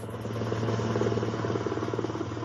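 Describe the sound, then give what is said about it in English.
A helicopter bringing U.S. President Donald Trump back to the White House in the evening; its steady, rapid rotor chop and deep engine drone hold at a constant, fairly loud level throughout, with no voices. “The helicopter yesterday evening that brought U.S. President Donald Trump back to the White House after 72 hours of hospitalization for the deadly COVID-19 virus.”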